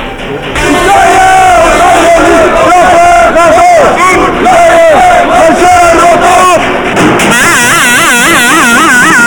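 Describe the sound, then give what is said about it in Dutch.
A loud crowd of about 200 protesters, in sunny weather, chants slogans such as "Bos moet blijven!" in unison in support of the Hotel Bos squat, many voices shouting in a steady rhythmic pattern. Near the end, a wavering, rising-and-falling wail rises above the chanting. “Heb jij enig idee waar deze demonstratie voor is?”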